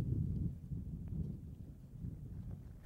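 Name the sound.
wind blowing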